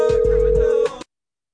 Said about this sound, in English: It's just ringing, really.